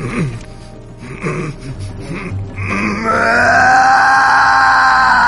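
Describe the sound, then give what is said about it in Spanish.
A man grunts and groans in pain as fingers are pushed into his open, bleeding wound, then breaks into a loud, sustained scream that builds and holds until the end, strained, with no speech. “Zul'jin introdujo sus larguiruchos dedos en ella. Lordemar gritó.”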